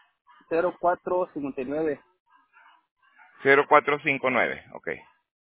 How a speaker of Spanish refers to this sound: ¿Tienes guajolote? Guajolote. No, es los perritos que están aquí afuera. Te escucho como guajolote.